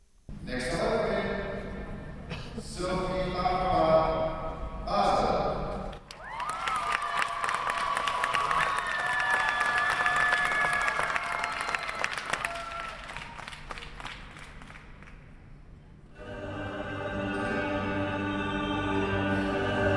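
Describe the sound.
A crowd claps and cheers loudly at a figure skating rink, greeting a skater as she begins her free skate program. A dense sustained wave of applause with high whistles and shouts, preceded by a voice speaking and followed by more talk over lingering noise.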